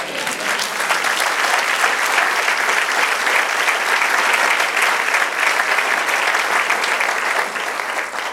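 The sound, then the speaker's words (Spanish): An audience breaks into sustained applause, a dense, steady wash of many hands clapping at an even loudness for several seconds before easing slightly at the end. “Dale un aplauso.”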